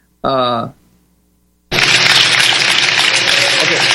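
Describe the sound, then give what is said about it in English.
A short voiced sound, then a pause, and a steady wash of applause from the audience in a hall holding 9,000 people, loud and sustained without a break for the last couple of seconds. “The applause, there are 9,000 people in the hall. It sounds as if there might be 13 people from the applause.”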